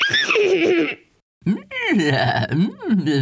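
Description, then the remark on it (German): A person vocally imitates a llama's high-pitched whinny made when there is danger: a shrill, wavering cry, a brief pause, then a longer whinnying call with rising and falling pitch, loud. “Aber die wiehern dann auch manchmal so ganz hoch, wenn Gefahr ist. Das klingt ungefähr so.”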